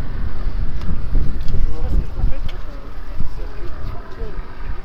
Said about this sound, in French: Bah, c'est le vent, hein.